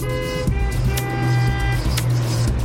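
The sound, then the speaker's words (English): Steady traffic noise with the low rumble of idling cars, a droning engine hum and a few brief bursts of passing vehicles, fairly loud, with no one talking. “When traffic's a nightmare.”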